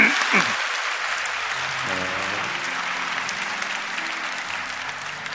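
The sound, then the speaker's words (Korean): A church audience applauds steadily for several seconds to bless a young musician after an instrumental performance, a dense, even patter of many hands clapping at once, with faint voices murmuring underneath. “에, 우리 박수로 축복하겠습니다.”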